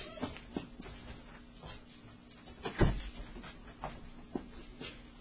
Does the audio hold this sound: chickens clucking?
no